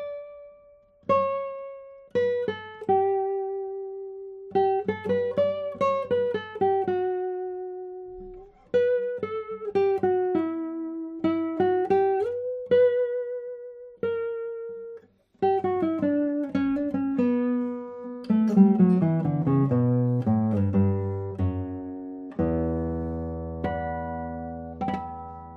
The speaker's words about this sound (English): This is a guitar with exactly my sound idea or taste, let's say taste.